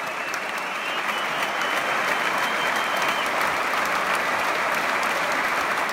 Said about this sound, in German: Standing Ovations, ja, die gibt es hier im Staatstheater öfter und sehr zu Recht.